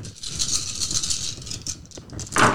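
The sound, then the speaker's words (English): Dice rattle and clatter continuously across a hard surface, a busy, bright rattling that swells into a louder burst of tumbling near the end. No voices are heard. “Only one die I had to reroll.”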